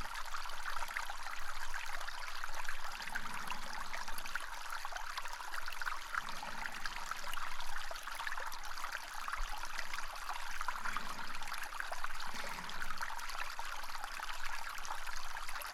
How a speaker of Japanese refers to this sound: このささやかな水の音を聞きながら、わらわの足の感触をしばし堪能するとよい。どうじゃ、この部屋は。社の部屋の一つが池のように水で満たされている場所があるなど思わないじゃろう。